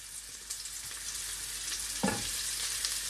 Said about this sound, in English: I always love hearing that sizzle in the pan. It's a very satisfying and soothing sound. Kind of like the white noise that I played to my baby when he was little.